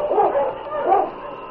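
A husky sled dog named King barks and whimpers in two short, yelping bursts, high-pitched and fairly loud, with no voices over it, while pulling a sled over river ice.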